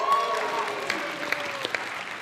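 A live audience claps steadily, a dense wash of many hands with a few sharper claps standing out, sustained at a moderate level for the whole moment.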